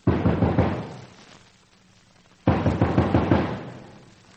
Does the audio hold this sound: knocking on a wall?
yes